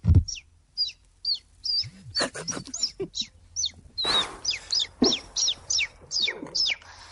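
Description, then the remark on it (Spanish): A woman's voice imitates little birds chirping, giving a quick run of a dozen or more high, short tweets in a steady, lively rhythm, with a few breathy noises between. “haciendo de pajaritos”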